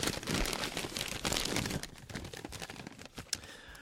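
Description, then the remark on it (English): Busy rustling and crinkling of paper for about two seconds, then lighter scattered crinkles and a few sharp crackles as the sheets settle, with no voices. “I'm sorry, this is the wrong paper.”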